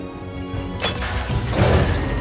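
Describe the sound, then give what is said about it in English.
A sharp metallic snap as police cut the chain on a large shipping container at a dock cuts through a steady mechanical rumble, followed by grinding, creaking scrapes as the heavy metal container doors are thrown open. No one speaks. “Cops cut the chain and throw the doors open.”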